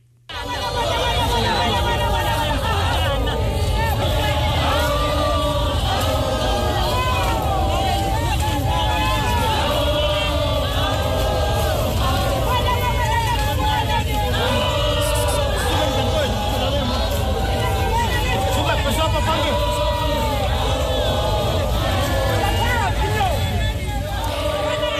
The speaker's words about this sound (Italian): Questi suoni ci portano proprio direttamente laggiù, tra gli Zulu. Le immagini che accompagnano questi suoni sono dei reggimenti Zulu guidati da donne che scortano il corpo della defunta regina reggente Mantombi Dlamini Zulu al palazzo Kangela